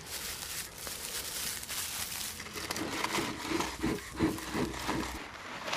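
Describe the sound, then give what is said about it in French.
Crackling and rustling of paper catching fire in a beekeeper's smoker, with soft crinkles and dry snaps building steadily over several seconds as the paper slowly takes, fairly quiet, with no voices. “Voilà, le papier a un peu de mal à prendre. Il est peut-être mille, ce papier. Ça a l'air d'aller mieux comme ça.”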